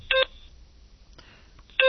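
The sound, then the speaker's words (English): Two short, bright keypad tones as a business phone number is keyed into a record, one a wrong key press, spaced about a second and a half apart with only faint background noise and a soft click in between. “I hit the wrong key there, but it will just ignore the other one.”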